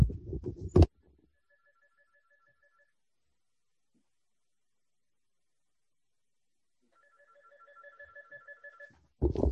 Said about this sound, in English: one second, my phone is ringing. Please excuse me one second.